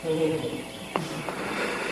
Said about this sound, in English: You can say it's near, but I like the sound of that bird.